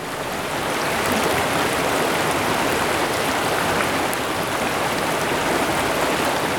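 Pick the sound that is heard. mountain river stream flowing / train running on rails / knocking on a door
mountain river stream flowing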